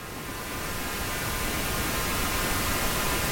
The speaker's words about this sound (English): I've also heard of people listening to something called pink noise before, and pink noise is supposed to be a little less harsh. It's very similar to white noise, but it's a little less harsh. This is what pink noise sounds like.